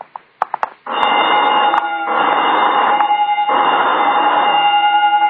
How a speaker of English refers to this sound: What's that? Oh, just testing the burglar alarm, I guess.